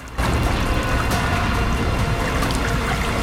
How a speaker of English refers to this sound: A narrow crack appears and water begins to seep out of it.